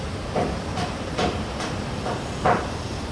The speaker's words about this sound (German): Auf der Hauptstrasse durch Art ist viel Verkehr unterwegs. Lastwagen fahren durch, Betonmischer rollen an. Die Art wird gebaut wie verrückt.